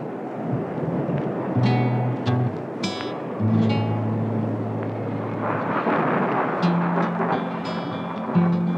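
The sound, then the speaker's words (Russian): A thunderstorm one evening with lightning: deep, rolling thunder rumbles over a steady hiss of heavy, pouring rain, loud and continuous throughout with no one speaking. “Гремел гром, сверкала молния, дождь лил, как из ведра.”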